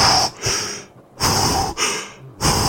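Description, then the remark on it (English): A man box breathing: heavy, audible breaths drawn in and pushed out, four airy bursts with short pauses between them, each one loud and rasping with no talking. “He starts box breathing. His professional reflexes kicking in.”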